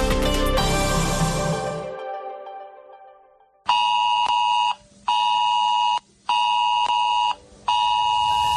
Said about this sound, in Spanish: Recoñeces este son? É o son do sistema S-Alert. Podes soar no teu móvil se a Xunta de Galicia o activa para que adoptes medidas ante unha alerta ou emerxencia de protección civil na tua zona xeográfica.